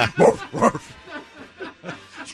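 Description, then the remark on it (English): A dog gives two loud, quick barks, followed by softer, muffled vocal sounds and faint background murmuring. “Now the dog says.”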